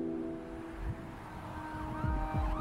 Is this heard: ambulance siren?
yes